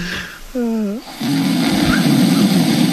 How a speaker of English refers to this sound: That's a real live Michael Felger snore. Oh, that's Felger snoring.